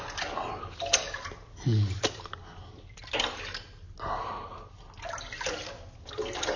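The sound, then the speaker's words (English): Water in a hot bath sloshes and splashes in uneven bursts, with soft trickles and gentle swirling between louder movements; no one speaks. “I'm glad you are relaxing and you deserve this hot bath.”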